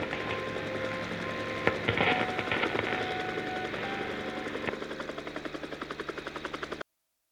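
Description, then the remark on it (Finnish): An unidentified helicopter that took off from a hotel and is landing on the field next to the radio building roars with dense, rushing engine noise, its rotor chop settling into a steady, rapid thumping pulse toward the end before cutting off abruptly. “lennonjohto ilmoittaa, että tunnistamaton helikopteri on lähtenyt hotelliväärän värisestä elefantista.”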